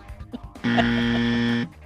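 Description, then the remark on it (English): A single loud, flat game-show buzzer, sounded by a quiz host at a contestant's answer, blares for about a second, a steady harsh electronic tone with no variation, preceded by a moment of quiet background noise. “That's to remind you, I'm buzzing you on the things that are in common.”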